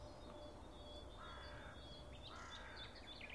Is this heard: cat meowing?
no